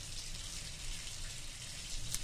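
Hot shower water runs in a steady, unbroken hiss with a soft low rumble underneath, holding an even level throughout. No voices are heard.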